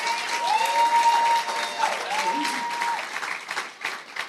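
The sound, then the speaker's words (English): An audience claps steadily in response to greetings from Pastor D, a dense, sustained wash of applause. A thin, high whistle-like tone rises and falls through the first few seconds, and the clapping thins out toward the end. “I better clap well so I can come in, so I can come again.”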